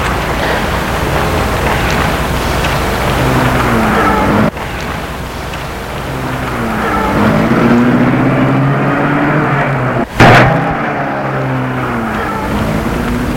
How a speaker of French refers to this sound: Et la voiture a disparu dans la nuit.